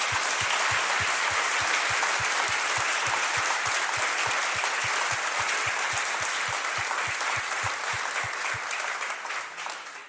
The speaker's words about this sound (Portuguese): A gente pode dar uma salva de palmas para o Senhor por isso.